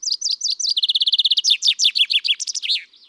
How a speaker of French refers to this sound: Le pinson des arbres répète inlassablement sa chanson, plus de 1000 fois par jour.